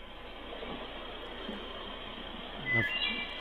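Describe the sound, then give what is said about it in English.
Steady traffic rumble and hiss fill the foreground, while a faint, fluty bird song slips through in the background near the end, a few clear whistled notes. “Listen for the background bird. The noise up front is just traffic noise and background sound.”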